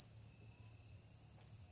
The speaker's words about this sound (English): So, just to clear the air a little bit, let's hear the crickets.